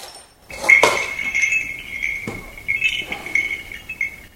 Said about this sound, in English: I have bells, clay bells I did myself.